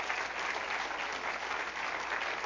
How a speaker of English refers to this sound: Give Lord a good clap offering this morning. Would you do that?